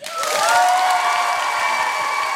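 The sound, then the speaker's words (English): An audience claps steadily and loudly for a couple of seconds to vote for a contestant to take home the crown, a dense wash of hand claps with some high cheering or whistle-like tones riding over it. “All right, ladies and gentlemen, if you want Vanessa to take the home the crown, clap.”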